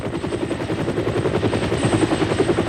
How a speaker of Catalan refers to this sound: És un helicòpter del tipus 1055D. Sort que he aprofitat l'ocasió, perquè em sembla que mai més a la vida no tindré cap altra oportunitat d'anar en un aparell d'aquests.